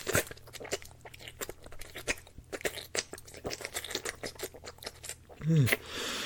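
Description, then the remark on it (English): Wet mouth noises of someone performing oral sex on a penis: a steady run of smacking, slurping clicks and spitting sounds, ending in a louder, drawn-out slurp with a brief low voiced hum. “I gotta spit all over you. Let me slurp it all back up.”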